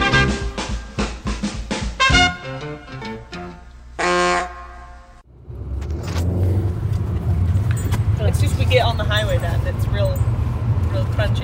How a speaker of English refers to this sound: We're in the car